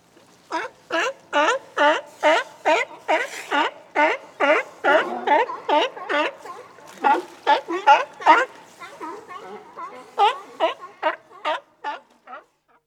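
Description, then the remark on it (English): A seal barks over and over in a fast, steady series of short, honking calls, each one harmonically rich and fairly loud, with no talking alongside. “A seal.”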